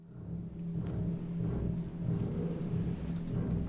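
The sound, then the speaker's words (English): A deep, rumbling bass chord from double basses and piano, opening an aria about Hamlet, sounds again and again, dark and heavy, with a thunder-like low resonance and no voices. “The aria starts with this sort of very low bass chord, almost like thunder going off, repeated, sort of very low, and the double basses in the piano.”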